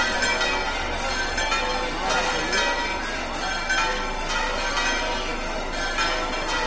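Church bells peal at the Iglesia del Carmen as thousands bid farewell to the Morenica, their clanging tones overlapping into a dense, bright wash that holds steady and loud for several seconds, with a murmur of voices underneath.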